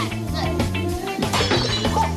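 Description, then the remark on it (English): A small nail polish bottle strikes and shatters glass, a sharp crash with tinkling breakage a little past the midpoint, fairly loud, while voices carry on in the background. “Nail polish nails the glass.”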